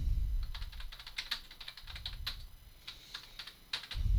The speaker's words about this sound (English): Oh, that's the problem. It kept randomly capitalizing letters. It's because I'm randomly typing periods. That would do it.